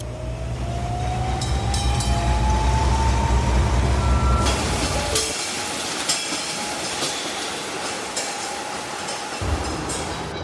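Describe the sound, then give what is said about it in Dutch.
A kind of tram in Hong Kong, two cars linked by a long iron cable, runs steadily, its low rumble and faint rising whine carrying for several seconds before the heavy rumble drops away, leaving lighter rattling and clicks. No one speaks. “En om daar te geraken, gingen we eerst naar de halte van een soort van tram.”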